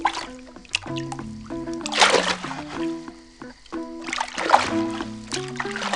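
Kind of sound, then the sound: nature, water splashing and trickling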